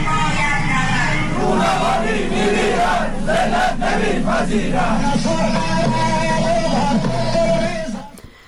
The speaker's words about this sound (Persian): مردم حاضر با سر دادن شعارهای ضد حکومتی و با در دست داشتن تصاویری از جمشید مختاری در سطح این شهر تا مزار این معترض کشته شده راهپیمایی کردند.